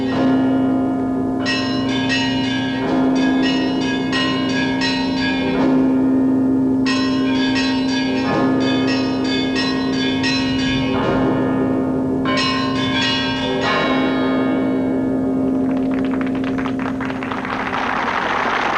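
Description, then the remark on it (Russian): Large church bells are rung by a bell ringer working pedals, ringing continuously in a layered, rhythmic peal, a deep sustained tone beneath bursts of brighter, quicker strikes repeating every few seconds, loud, with no voices. “но дети были удивлены вообще, что бывает такое, что звонницы стоят отдельно, что такие большие колокола, и звонарь, когда звонит, у него получается, как бы он подпрыгивает, и педали в разных сторонах находятся.”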